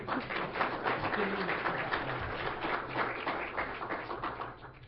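A room full of people applauds at the end of a talk, dense overlapping claps holding steady for several seconds, with faint murmuring underneath.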